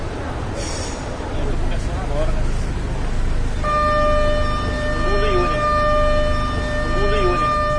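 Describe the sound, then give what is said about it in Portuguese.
A train rumbles past, and about halfway through a loud, steady horn blast starts and holds to the end, its rich tone sitting over the continuous low roar of the passing cars. “Próxima estação, ao desembarcar com o barulho avante, o trem vai passar.”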